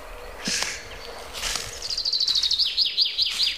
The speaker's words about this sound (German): Also, wir hören jetzt die Buchfinken.